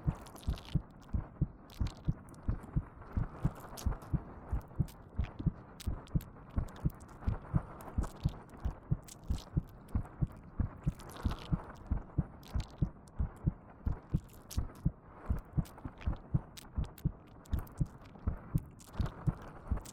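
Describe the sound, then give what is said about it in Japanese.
A steady, fairly quick heartbeat from a woman's chest thumps muffled, each beat a soft low double pulse, repeating evenly for the whole stretch with no voices. “おじさんがかわいすぎて、おっきな赤ちゃん甘やかして、母性全開になっちゃって、なんだかドキドキしてきちゃったよ。”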